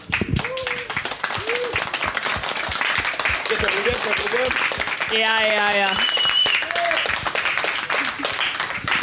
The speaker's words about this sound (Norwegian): en applaus til bandet.